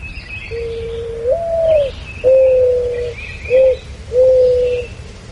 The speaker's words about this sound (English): And while we enjoy the sound of the mourning dove together,